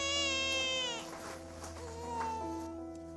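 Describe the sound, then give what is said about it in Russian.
A baby girl who has just woken cries in a sustained, wavering wail that rises and falls over about three seconds, loud with no talking. “проснулась.”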